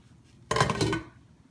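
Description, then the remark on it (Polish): A single metal pot of potatoes, set on to boil, clunks down onto a stovetop, fairly loud, with a short ringing clatter that fades within half a second. No voices are heard. “Następnie wstawimy ziemniaki, żeby nam się gotowały.”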